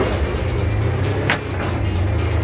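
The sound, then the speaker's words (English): A car engine roars steadily and loudly, a constant low rumble with a brief dip midway, as if the vehicle is speeding along the road; the car is presented as the fastest car in the world. “There it is, gentlemen, the fastest car in the world.”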